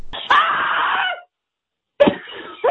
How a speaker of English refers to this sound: The idea. You call it, you scream, you hang up. You maybe go to the website and hear other callers' screams.